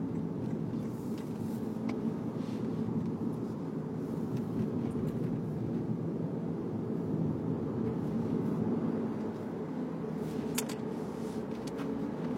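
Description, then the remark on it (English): Steady low rumble of a car moving down the road, heard from inside the cabin, with constant tire and engine drone and a few faint clicks, no talking. “Now here we are. Phone, driving a car.”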